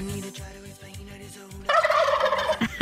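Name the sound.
turkey gobbling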